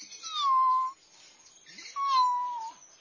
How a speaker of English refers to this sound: A kitten.